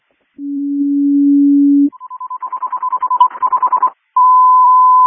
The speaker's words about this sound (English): And CCOM Battalion 3, can I get a general alarm flowing through the station 1 when you have assignment? Your message received, general alarm flowing.